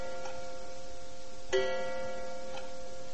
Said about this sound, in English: I found the clock, the big old-fashioned number with a pendulum, in the tower atop the Board of Trade building, which, of course, housed the pit, the floor of the grain exchange, the place where the traders operate.